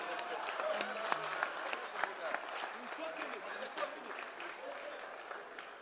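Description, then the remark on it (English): An audience claps steadily for several seconds, a dense patter of overlapping hand claps with scattered sharper hits, while a few voices murmur and call out underneath. “Clap for him.”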